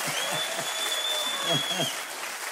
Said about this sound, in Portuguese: Um aplauso de verdade pra Carmen.